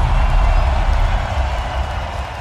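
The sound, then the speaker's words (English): A loud, sustained roar of a crowd cheering and applauding on a Friday night, a dense wash of noise that stays steady for a couple of seconds and eases slightly toward the end. “Damn, y'all make some motherfucking noise for yourself.”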